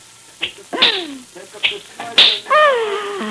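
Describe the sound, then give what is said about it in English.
Four sharp, snapping whip cracks at a circus land at uneven intervals, each a bright burst, with drawn-out falling vocal sounds between and after them. “And when you crack your whip like that tonight in the center ring, Rosa the equestrian, the daring rider, will die.”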